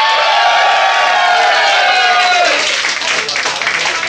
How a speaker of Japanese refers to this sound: 続いてのステージは、左側でさっきから拍手してくれてます